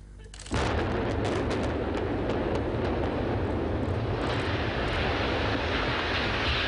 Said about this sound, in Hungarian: A jövőben uniós támogatással barnamezős fejlesztés valósul meg, ezért kezdték el robbantani az egykori üzemcsarnokokat.